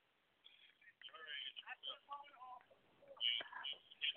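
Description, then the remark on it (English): Someone's mobile phone, left on, rings during a talk at a retreat. It plays a short melodic ringtone of stepped tones, moderately loud, mixed with muffled voice-like sounds, the whole thing thin and band-limited. “All right, somebody got their phone on.”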